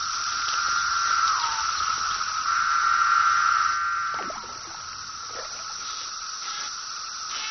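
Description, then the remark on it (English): A dense, steady buzzing drone of periodical cicadas, out after an absence of 17 years, fills a forest, a shrill hiss concentrated around one high pitch, loudest early on and easing slightly after a few seconds, with no voices. “After an absence of 17 years, the forest is now overrun by cicadas.”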